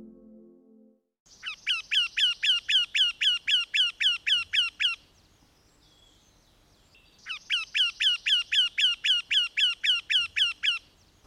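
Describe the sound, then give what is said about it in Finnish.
Two bursts of a Eurasian wryneck's call, each a rapid series of about fifteen loud, nasal, slightly rising notes, separated by a short pause. Clear, with no talking. “Käenpiikojen paluu. Tänään oli käenpiikojen massamuuttopäivä.”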